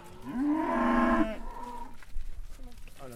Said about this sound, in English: The little calf here. That really is the size of a dog. Yeah, not even a very big dog, to be honest. Not quite a Jack Russell, a little bit bigger than that.